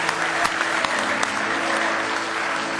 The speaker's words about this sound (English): Give him one more hand clap of praise if you love him. Praise the Lord. Oh, you can beat that. Go ahead and give him a good hand clap.